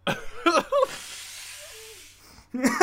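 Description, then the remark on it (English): A voice speaks briefly, then a person with allergies blows their nose, a long, steady, breathy blow that hisses for about a second and a half with a faint whistling squeak, before talking resumes. “Hold on, I need to blow my nose.”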